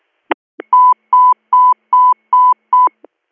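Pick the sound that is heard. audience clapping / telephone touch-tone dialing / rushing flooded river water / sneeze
telephone touch-tone dialing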